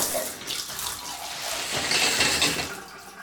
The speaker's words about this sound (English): Natalia stood under the shower, the hot water feeling good as it splashed on her skin and ran down her body.